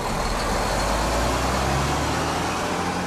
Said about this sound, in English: The truck border crossing in San Diego is always busy.